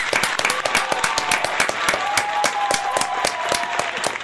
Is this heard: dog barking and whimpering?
no